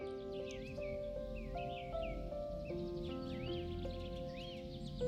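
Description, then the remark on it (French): Birds sing continuously with quick, sweeping chirps and warbles, layered over soft sustained musical tones that shift pitch slowly. No one speaks. “Tout en remarquant le doux chant que sifflent les oiseaux sur ton passage.”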